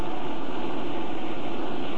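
A steady, unbroken drone of motors running behind a door, a dense even rumble and hiss that holds the same loudness throughout, with no voices or other sounds breaking through.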